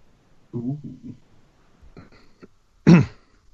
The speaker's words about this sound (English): That was a confident cough